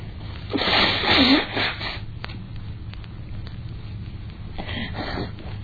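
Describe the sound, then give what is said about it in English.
A single forceful sneeze bursts out early on, a sharp breathy blast with a brief voiced edge, then fades into quiet breathing and faint rustling. “Wait, I have to sneeze first.”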